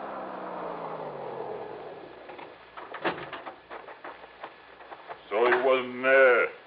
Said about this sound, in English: Then I heard it. The hot rod coming down the soggy wagon road.